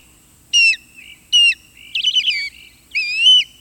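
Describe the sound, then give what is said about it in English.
An osprey calls in late March in four bursts of sharp, high whistled chirps, the third a rapid quavering run and the last a longer rising-and-falling cry, with no voices over them. “March may come in like a lion, but around here it goes out on the crooked wings of an osprey.”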